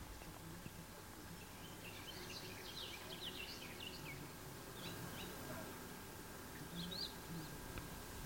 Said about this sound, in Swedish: Vad säger vi att det är? En trädgårdssångare var det som lät här förut. Ja, där är det inte helt fascinerande att de sjunger i mitten av juli? Att de orkar nu igen? Det kan nog vara, precis. De har kommit igång igen här efter häckningen.